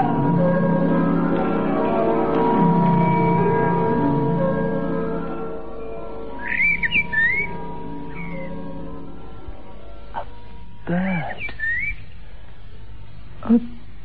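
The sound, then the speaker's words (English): A sustained, ringing harmonic tone fades out, followed by two brief bursts of high, warbling bird chirps separated by quiet stretches, and a single sharp tap near the end. “The bird didn't call again.”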